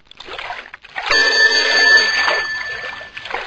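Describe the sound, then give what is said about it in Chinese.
A telephone rings loudly with a prank call, one sustained burst of bright, buzzing bell tone lasting about two seconds, preceded and followed by soft rustling noise. “妈妈，他又打电话逗你。”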